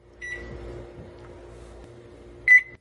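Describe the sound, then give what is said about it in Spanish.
A parrot mimics microwave beeps: a short, high electronic-sounding tone, then after a pause a second, louder beep, over a steady low appliance-like hum. “El pájaro picando, como si le hiciera picando al microondas.”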